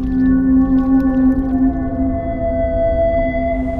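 animal, whale song

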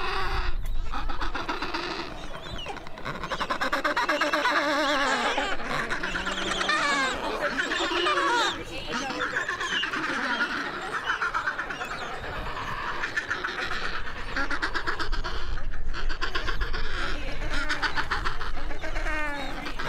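bird, adélie penguin colony calling

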